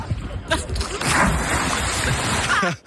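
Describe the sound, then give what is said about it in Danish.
A person dives headfirst into water with a sharp splash, followed by a couple of seconds of churning, bubbling water before it abruptly cuts off. “Men man kan høre det på den måde, du bryder vandet på.”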